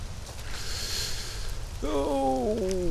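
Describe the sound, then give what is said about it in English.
Steady outdoor rain hiss with low rumble throughout, falling among trees by a turtle reproduction pond, and a brief tonal, voice-like call rising over it in the final second. “Getting rained on.”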